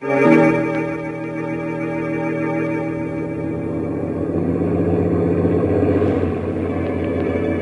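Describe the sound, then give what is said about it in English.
A truck engine drones steadily as it drives home through a foggy night, a continuous low, humming rumble that stays fairly loud throughout, with no voices. “We rode home through the foggy night in the truck, the ape and I.”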